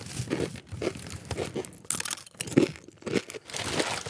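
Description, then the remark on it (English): Loud crunching of plain cornflakes breakfast cereal in quick, repeated bursts with brief pauses between them, crisp and crackly, with no talking. “You know, cornflakes, the breakfast cereal, plain, crunchy.”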